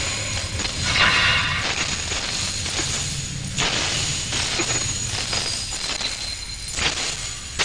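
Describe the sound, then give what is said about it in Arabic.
Soldiers smash glass to pieces on their commander's order in a loud burst of crashing, followed by further heavy impacts and a steady spill of tinkling, scattering shards throughout. “فأمر القائد جنوده بكسر الزجاج فهشموه تماما.”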